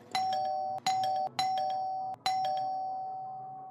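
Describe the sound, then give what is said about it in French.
A house doorbell rings in the morning with four bright chime strikes in quick succession, each tone ringing on until the next, the final one fading out slowly. No voices are heard. “Et la sonnette de la maison retentit.”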